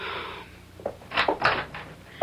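household object, door being opened

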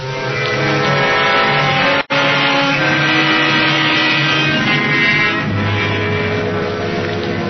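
vehicle, car driving

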